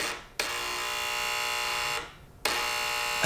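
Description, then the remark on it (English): A harsh, raspy electric door buzzer, signalling someone at the door, sounds in two long presses, the first lasting about a second and a half, then a short pause before the second begins. No one speaks. “No, that noise tells me someone's at the door.”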